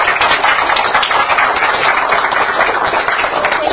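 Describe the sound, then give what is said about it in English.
An audience at the end of a talk gives the speaker a round of sustained applause, a dense, steady wash of many hands clapping at once that stays loud and even for several seconds with no voices over it. “Let's give Ross a round of applause.”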